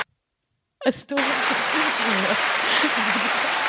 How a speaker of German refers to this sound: Das kann man dann auch verwenden in seinem Podcast. Wenn wir Applaus haben wollen, dann machen wir so.